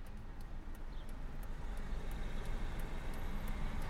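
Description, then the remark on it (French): A steady low rumble of road and engine noise from inside a moving car driving to the Institute of Vine and Wine Science in Villeneuve-d'Ornon, about 30 minutes from Bordeaux, constant and fairly loud throughout, with no talking. “Donc on est de retour dans la voiture, cette fois-ci pour aller où ça, Elsa?”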